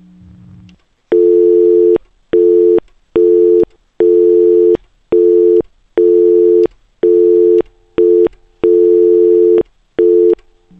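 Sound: telephone busy signal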